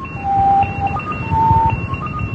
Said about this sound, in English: There's the ones that transmit five, in Morse.